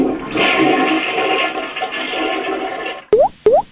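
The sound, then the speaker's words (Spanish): A toilet flushes with a loud, steady watery rush for about three seconds, then cuts off and is followed by two quick, rising whistle-like blips. “También puedes instalar en la caja del excusado una botella de 2 litros de agua llena o un tabique. De esta forma ahorrarás líquidos en cada evacuación.”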